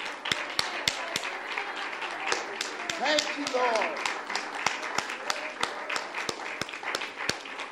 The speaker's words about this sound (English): In Jesus' name. And now would you clap to the Lord? It's like a praise offering.